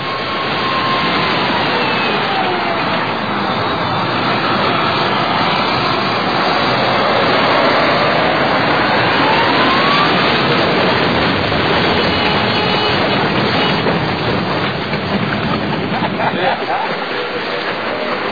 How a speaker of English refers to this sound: The tank runs over the car and then back over it, and they laugh about it.